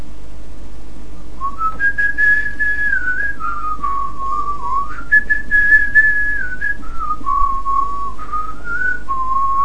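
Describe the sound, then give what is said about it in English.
Someone whistles a simple folk-style melody, recalling the whistled part of a band's song heard at a concert, the notes sliding up and down in clear, steady phrases for about eight seconds, fairly loud over a low background hum. “Yeah, what's the whistling bit? The whistling, oh god.”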